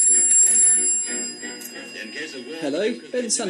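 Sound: telephone ringing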